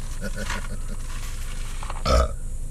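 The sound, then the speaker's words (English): A single loud burp erupts near the end, a short low rumbling belch rising above a murmur of background chatter and room noise. “Nigga burped on that.”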